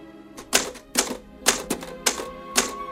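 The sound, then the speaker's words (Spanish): A woman types on a typewriter: crisp keystrokes strike in quick bursts at a steady working pace, each clack sharp and bright, with short pauses between clusters and no voices. “continúa tecleando.”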